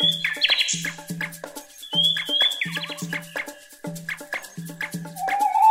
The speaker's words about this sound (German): Nachtigallen sind klassische Unterholzvögel. Ihr Gefieder ist schlicht und tarnt sie vor Fressfeinden. Für den Karneval in Rio ist es schlichtweg untauglich. Ganz im Gegensatz zu ihrer Stimme.